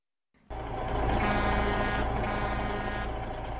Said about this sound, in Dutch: Ik sprong recht, want ik hoorde zwaar motorengeronk en ik zag de felle reflectoren van een vrachtwagen door de duisternis boren.